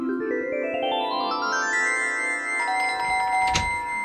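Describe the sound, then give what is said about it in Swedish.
A doorbell rings as a woman arrives at the door, a melodic electronic chime with tones stepping upward and ringing on together, clear, then a soft knock near the end; no one speaks. “Så jag hann varken bajsa eller duscha innan hon ringde på dörren.”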